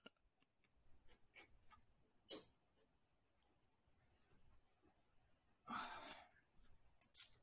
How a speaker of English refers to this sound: Is someone in the room? I hear like clicking and stuff. It's my dog.